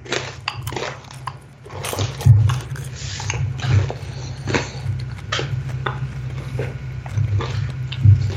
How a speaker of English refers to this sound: You're gonna stop munching in your ears, people.